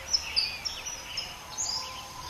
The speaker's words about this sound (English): Then the birds. The birds are a constant all through the spring and into the summer.